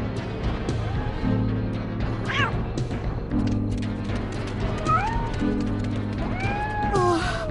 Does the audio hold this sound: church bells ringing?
no